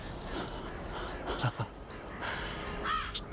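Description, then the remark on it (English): A carrion crow caws a few times, harsh rasping calls spaced apart, over a steady windy outdoor hiss. “carrion crow. The jackals. The maggots.”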